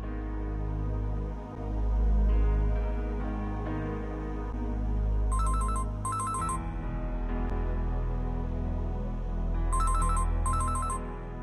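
A telephone at the Delix consumer service rings in two double bursts, a bright electronic trill repeating after a pause, over a steady low background hum. No one speaks.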